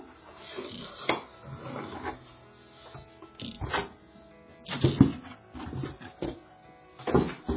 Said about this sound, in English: So I want to work on the back piece of my box in here, so I'm going to set that directly onto the paper, get my pencil, and then I'm going to draw on the paper so that I know what size to cut out.